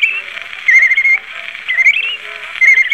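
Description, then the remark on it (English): A person whistles a wavering melody like a bird, the clear tone gliding up and down in short connected phrases, fairly loud with no talking. “But I told him I could claim attention whistling like a bird.”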